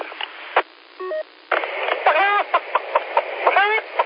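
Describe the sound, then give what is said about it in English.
Chickens cluck in short, repeated bursts over a tinny, radio-like line, with a quick run of telephone keypad beeps just before the clucking starts. “nobody here but us chickens.”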